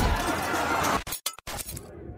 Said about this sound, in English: At one point, she grabs hold of a huge battering ram and repeatedly smashes it against one of the Capitol windows.